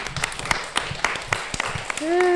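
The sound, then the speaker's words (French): Scattered, irregular handclaps from an audience applauding the children, a light smattering rather than a dense roar, ending as a sustained voiced tone rises over the last claps. “On peut vous applaudir.”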